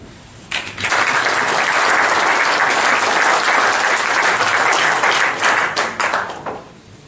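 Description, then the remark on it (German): A crowd breaks into sustained applause, dense bright clapping rising quickly and holding steady for several seconds before tapering off near the end. No one speaks over it. “Applaus.”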